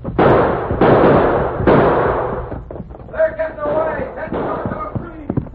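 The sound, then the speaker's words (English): Three loud, sharp gunshots ring out in quick succession, each with a long rumbling decay. Shouting voices and fainter scattered noises follow. “Now stay down when you run and keep on firing.”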